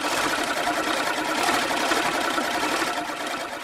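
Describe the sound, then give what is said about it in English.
A hand-cranked egg beater, used by radio sound effects pioneer Ora Nichols, whirs steadily for several seconds, its fast, rattling mechanical drone imitating a lawnmower engine, loud and continuous with no voices. “She discovered an egg beater sounds a lot like a lawnmower.”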